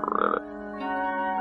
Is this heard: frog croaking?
yes